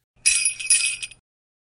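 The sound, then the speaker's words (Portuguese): A brief burst of jingling sleigh bells on a Christmas phone line, signalling the caller to say a child's name: bright and high-pitched, shaking in a quick rhythmic cluster for about a second before stopping abruptly. “Por favor, diga o nome da criança depois de ouvir o som dos sinos do trenó.”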